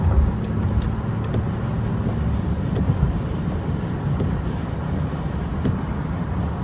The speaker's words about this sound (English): Road, and the police have told me that there's a bad accident, but the funny thing is it's just trucks that's backed up and no cars. And these trucks are backed up for quite a while, all on the side. So it's truck after truck after truck after truck.